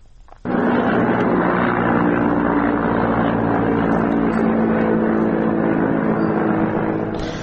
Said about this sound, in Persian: همونطور که در خبرها هم شنیدیم، پرواز هلیکوپترها بر فراز شهر مهاباد گزارش شده. تعداد زیادی هم ویدیو که این پرواز هلیکوپترها رو نشون میده منتشر شده. صدایی که از این ویدیوها رو میتونیم بشنویم.